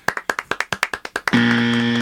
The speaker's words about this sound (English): Ladies and gentlemen, can I get some applause for our technician, par none